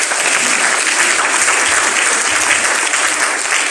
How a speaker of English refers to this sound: Give a clap unto Jesus.